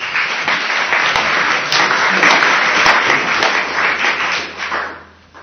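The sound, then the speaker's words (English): An audience claps for a man about to take a Coca-Cola taste challenge, for about five seconds, a dense, steady patter of many hands that holds level and then tapers off near the end. “Okay, let's give him a clap.”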